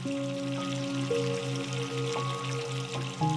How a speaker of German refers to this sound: Du lässt warmes Wasser in die Wanne und gibst auch ein bisschen Schaumbad hinein.